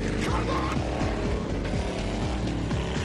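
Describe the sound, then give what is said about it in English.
Several racing car engines roar and rev loudly as they start off together at the start of a race, their pitch sweeping up and down in a dense, continuous mechanical drone. “Machines start strong, and it looks like the Big Shots are taking an early lead.”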